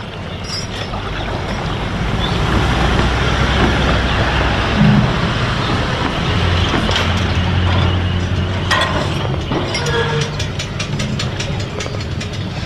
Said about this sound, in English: Yes, the early morning sounds on the Murray River at Manham, the home of the riverboats, and as the punt makes its way across the river and the waterfowl come out on the river. We're on board the 30-metre steel motor vessel Proud Mary.